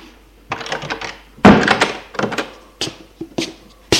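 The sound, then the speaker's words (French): A woman shuts a door, landing with a solid, heavy thunk, surrounded by several lighter clunks and rattles of handling before and after. No one speaks. “Elle ferme la porte.”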